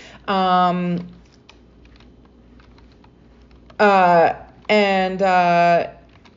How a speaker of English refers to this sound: Hold on a sec here. This is so funny. I'm like multitasking and I'm not even typing in the correct words.